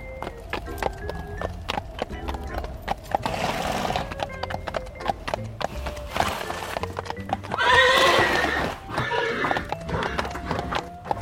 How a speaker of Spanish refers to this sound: El caballo alzó su cabeza mientras el viento arremolinaba su crin. Dando pasos y brincos, se aproximó cauteloso. Empezó a inclinarse para luego relinchar. Dio media vuelta y siguió con los brincos.